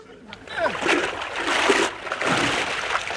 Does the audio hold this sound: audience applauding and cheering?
no